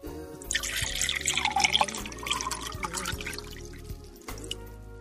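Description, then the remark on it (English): Wine pours from a freshly opened bottle into a glass in a steady gurgling stream lasting about four seconds, splashing and bubbling before it stops. No one speaks. “Pour a glass for each other, or just for yourself.”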